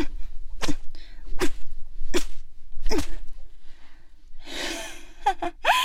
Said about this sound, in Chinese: 哼，看来我刚才那一鞭子还没有叫你知道我的厉害。